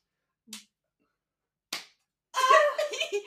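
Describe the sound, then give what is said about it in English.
Two sharp slapping punches land about a second apart, crisp, followed by a short burst of vocal exclamation right after the second impact. “Punching noises.”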